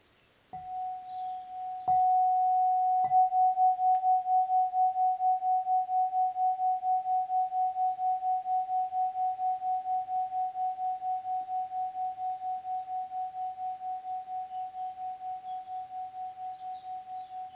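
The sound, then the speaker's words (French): A quartzophone is struck a few times, then holds one clear, crystalline mid-high tone that rings on for many seconds with a slow, wavering pulse, fading only slightly. No voices. “Le son spiralé cristallin du quartzophone participe à la fluidité qui revient à chaque respiration, dans votre rein droit, dans chacun de vos organes.”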